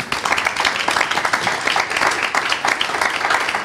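Steady audience applause for a discussion panel, a dense wash of many hands clapping at fairly even loudness throughout, with no voices rising above it.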